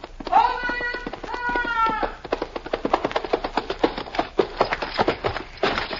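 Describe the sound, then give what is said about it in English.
A Pony Express rider's horse approaching a relay station: hooves clip-clop in a steady, brisk rhythm of sharp knocks for several seconds, following a brief high, wavering call at the start. “Fresh horse awaits him.”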